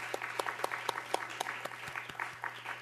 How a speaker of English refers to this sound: Thank you so much. Let's give a round of applause, actually, for our candidates.